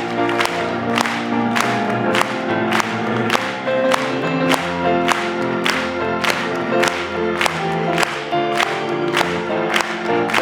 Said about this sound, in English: Let's just clap it to him.